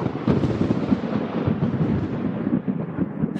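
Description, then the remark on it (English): A loud, sustained rumble of thunder rolls continuously, dense low booming with crackling texture, like a storm sound effect played alone. “I mean, we even have lightning.”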